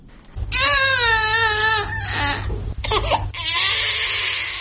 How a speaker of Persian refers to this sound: گریه کودکی که 3 روز می شود به دنیا آمده است، اما معلول و سوی شکل.